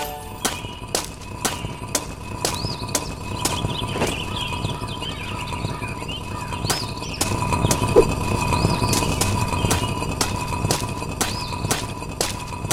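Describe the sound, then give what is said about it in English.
A stock sound-library car-door-opening sound effect: sharp clicks at irregular intervals with short squeaky, chirping tones over a steady low hum, staying moderately loud with no voices. “That is literally, like, in the sound library, that is literally a car opening sound.”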